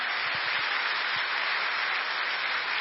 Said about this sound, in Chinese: 哈利路亚，感谢赞美主，谢谢主，我们给上帝一个掌声。